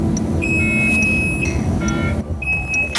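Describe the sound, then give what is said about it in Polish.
A bus's steady electronic warning beep, signalling that the driver's cab door is open, sounds in two long tones, each about a second, over a low rumbling engine idle, with short chirps in between. “Czyli to informuje, że kierowca ma otwarte drzwi kabiny.”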